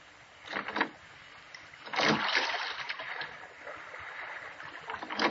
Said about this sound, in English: Push off, man. Start rowing. The other boats are piling up behind you.